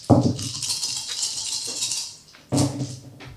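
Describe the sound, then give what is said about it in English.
Dice rattle in a cupped hand or cup for about two seconds, then a short pause before a second burst of clattering, bright and fairly loud with no talking. “Four dice, five dice.”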